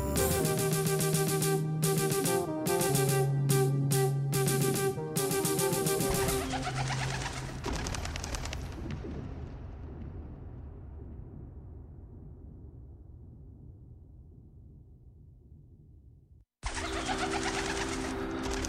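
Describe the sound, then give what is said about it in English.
Rock doves coo in low, throaty bursts against a dense background that gradually fades away, then the cooing returns briefly near the end. No one speaks. “Rock doves could observe you from above while you were in the tub or in the loo.”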